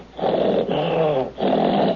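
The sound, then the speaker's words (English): A person over 64 imitates an angry tiger's growl with their voice, making three rough, rumbling growls in close succession, loud, with brief breaths between them. “I think I can do it to a tiger.”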